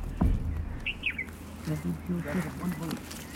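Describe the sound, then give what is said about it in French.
A bulbul gives a couple of quick, bright chirps near the start, followed by a low voice talking over faint outdoor background noise, in a small patch of wild forest on the outskirts of Delhi, India, at the end of the day. “Cet oiseau, c'est un bouleboule.”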